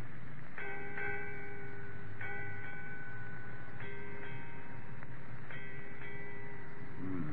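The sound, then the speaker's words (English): A ship's bell rings out eight bells: four pairs of clear, ringing strikes spaced evenly apart, each pair's tones overlapping and sustaining before slowly fading, with no voices. “Eight bells, Captain. Aye. 8 bells, mate.”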